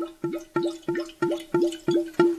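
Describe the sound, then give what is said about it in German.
Wine glugs out of a bottle into a glass in about seven quick, evenly spaced gulps, each with a hollow, mid-pitched tone that rises slightly as the glass fills. No one speaks. “Also für alle Hörer, die jetzt gleich auf Klo müssen. Ja, die Spannung war nie so hoch für ein Glas Wein wie heute.”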